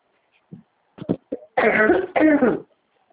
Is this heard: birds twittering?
no